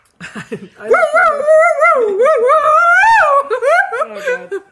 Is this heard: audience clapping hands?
no